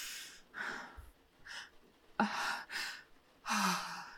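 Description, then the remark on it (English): A series of five or six sharp, breathy gasps and exhales, fairly loud, coming in uneven bursts with brief quiet gaps between them. No talking. “Oh, I can hear it in your needy little gasps against my pussy.”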